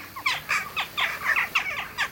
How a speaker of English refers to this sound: The catchy name Jackdaw belongs to a European bird that looks like a compact crow drawn in shades of light and dark gray.